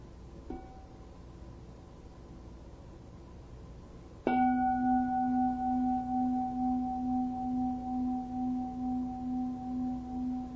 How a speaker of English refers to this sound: Let us enjoy one sound of the bell.